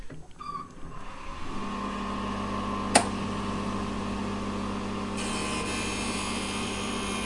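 A lens cutting machine, trimming a large lens to its exact shape with grinding wheels wetted with water, starts up and runs with a steady mechanical hum and whir, a brief sharp click near the middle, and a brighter high-pitched whine joining in toward the end.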